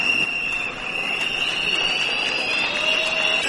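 A loud, continuous din of many whistles blown by Denis Mukwege and much of the audience in a hall at exactly noon, shrilling together over a dense crowd roar, with knocks and bangs of people hitting the tables mixed into the steady noise throughout.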